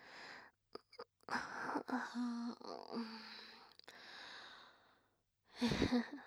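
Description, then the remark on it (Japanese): A long, drawn-out yawn with a wavering voiced tone that rises then trails off, preceded by a few short breaths and followed by a brief pause and a breathy exhale. “あくびしちゃってごめんね。”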